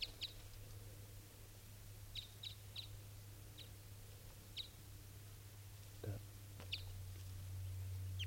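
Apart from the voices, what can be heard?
female bird calling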